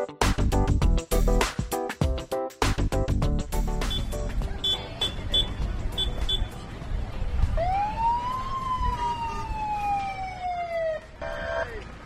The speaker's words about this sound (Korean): 네, 여기저기서 울리는 여기저기서 울리는 사이렌 소리. 제가 지금 나와 있는 이곳은 페어팩스 카운티에 있는 첸틀리 도서관입니다.